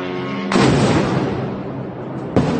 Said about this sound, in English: Moscow's mayor took to social media to say a drone attack in the Russian capital city caused, quote, insignificant damage to several buildings. So on Tuesday morning, a lot of Russians woke up to the sounds of explosions.